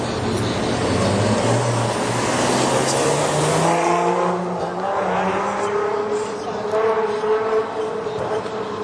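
Cars roar past one after another, their engine tones rising and falling against a steady wash of road noise, with voices faintly audible in the background.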